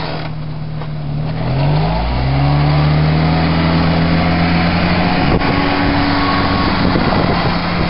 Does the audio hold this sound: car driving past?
yes